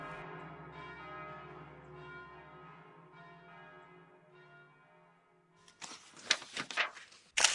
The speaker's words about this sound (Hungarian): És zengve, zúgva, egymásba olvadtan megszólalnak a Róma harangjai. Riad galambok rebbennek fel a Pantheon kupolájáról, esetlen szárnyalással, ebben a mennydörgésszerű, hatalmas, félelmetes és nagyszerű harangozásban.